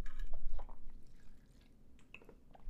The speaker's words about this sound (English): I just popped my melatonin and I was also very thirsty. I had to take a sippy of water.